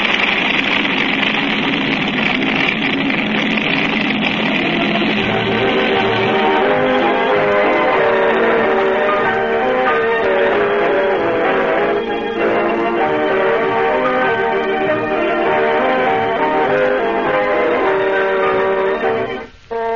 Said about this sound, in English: It's a motorcycle. Somebody's riding a motorcycle through here.